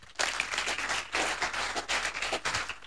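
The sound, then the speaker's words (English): An audience claps together in a dense, steady burst of applause that starts abruptly and continues for a few seconds at moderate loudness, with no voices standing out. “You are not clapping your hands.”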